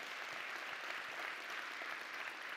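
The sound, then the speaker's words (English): A crowd claps steadily and densely for a few seconds, a continuous wash of many hands with no voices over it and an even, sustained loudness throughout. The audience is applauding the tech crew. “The tech guys deserve a great round of applause.”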